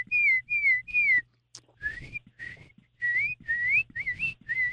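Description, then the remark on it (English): A person whistles a repeated two-note birdlike call, clear, in several short phrases with a steady rhythm and a brief pause in the middle, imitating the two-tone whistle of a tufted titmouse. “They have that kind of like a two-tone whistle that they'll repeat periodically.”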